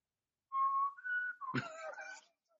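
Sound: person attempting to whistle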